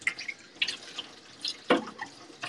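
Water runs from a tap into a sink at home while plastic plates are washed, with irregular splashes and clinks, including a sharper clatter near the middle, fairly quiet, with no talking.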